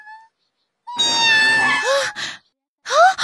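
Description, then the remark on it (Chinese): A cat lets out a long, drawn-out meow, then a second shorter meow moments later. A couple of faint tones come before it, and no one is talking. “好，现在改正错误还不算晚，我得把猫咪还回去。”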